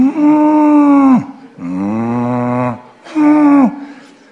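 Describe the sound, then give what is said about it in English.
A person imitates a cow crying, giving three long, drawn-out mournful moos, each sagging in pitch at the end, loud, with short pauses between. “Have you ever heard a cow cry?”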